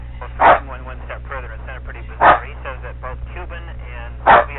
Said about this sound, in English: Hold on a second. We got a visiting dog who's barking too loud.